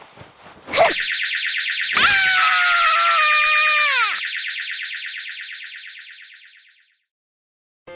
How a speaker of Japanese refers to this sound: そのキーホルダー、もしかして防犯ブザー？ちょ、待って。